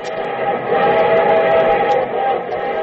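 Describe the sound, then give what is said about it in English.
A steam train whistle blows a long, steady, loud chord over the dense rumble of a rolling train, sustained throughout with no pauses. It is the show train coming from Hollywood for The Railroad Hour. “From Hollywood, here comes the star-studded show train.”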